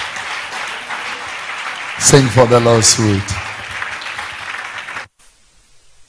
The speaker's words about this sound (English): I would love her to sing at least one song before we start. Amen. Are you clapping for her? Clap, clap, clap, clap.